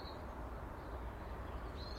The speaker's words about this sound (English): It's very cold this morning, cold, nippy. But beautiful. Listen to the birds, they're enjoying this.